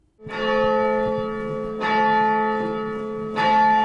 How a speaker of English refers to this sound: The bells of St. Mary's set the rhythm of life at this abbey in Glencairn, sounding the call to worship.